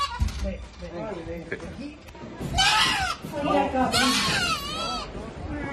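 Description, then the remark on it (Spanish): A small black goat, rescued by firefighters from the window ledge of an empty fifth-floor flat in a building in the Villaverde district of Madrid, bleats loudly: two long wavering cries in quick succession, with people murmuring and moving around in the background. “Sí, sí, el de esta cabra que escuchas, pequeña y de color negro, que ha sido rescatada por los bomberos de la Comunidad de Madrid del Alféizar de una ventana de un quinto piso vacío de un edificio situado en el distrito de Villaverde.”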